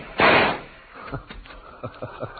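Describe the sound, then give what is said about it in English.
A single loud gunshot bursts out during a store robbery as a man is shot down, and quickly dies away, followed by a few soft, scattered thuds like footsteps or light knocks. “you gunned down Mr.”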